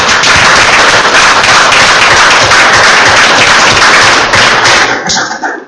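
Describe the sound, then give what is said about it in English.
A crowd breaks into sustained applause for all the council candidates, many hands clapping loudly and densely at once, keeping up a steady roar of claps for several seconds before tapering off at the end. “Can I lead a round of applause for all the candidates?”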